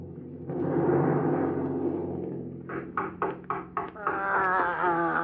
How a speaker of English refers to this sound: Oh, here's a knocking indeed. Knock, knock, knock.